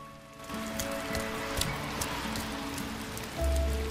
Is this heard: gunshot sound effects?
no